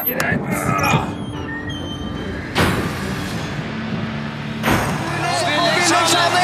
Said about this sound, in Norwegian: hvis du bare hjelper med å åpne opp døra her.